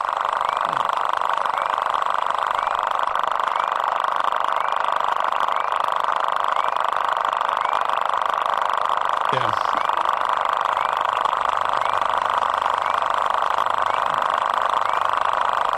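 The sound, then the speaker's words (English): A lesser water boatman stridulating underwater: a loud, unbroken, engine-like buzzing drone that holds steady throughout, with one brief knock partway through. “If you want, you want to hear a little bit of Lesser Water Boat.”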